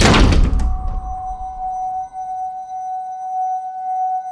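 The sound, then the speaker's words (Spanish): Men leaving shut a door with a single loud, heavy thunk, followed by a steady metallic ringing tone that hangs on and slowly fades. “Salieron y cerraron la puerta.”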